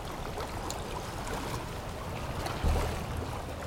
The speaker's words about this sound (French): Un vent tempétueux souffle. Créant ces vaguelettes.